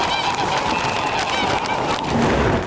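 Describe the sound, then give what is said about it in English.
A flock of geese honks continuously and loudly, their overlapping harsh calls forming a dense, chaotic chorus with no pauses. “Watch out for the geese!”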